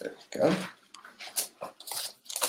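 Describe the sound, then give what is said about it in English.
Crisp rustling and crinkling of paper being handled, in several short bursts with a louder rip near the start, then lighter scuffs and rustles spread across the rest. “Do I not have any paper left?”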